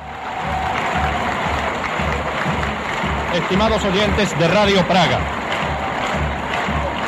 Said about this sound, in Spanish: los aplausos y la ovación que están ustedes escuchando se registran hoy, viernes 22 de junio de 1962, en el Estadio Strahov de Praga, donde tiene lugar el recibimiento de la Selección Nacional Checoslovaca de Fútbol, que el domingo pasado conquistara